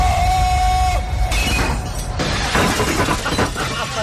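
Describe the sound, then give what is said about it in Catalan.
Glass shatters with a bright, crackling burst that keeps tinkling and scattering for several seconds, loud and dense throughout, with a steady high ringing tone underneath at the start. “Els vidres de la redacció.”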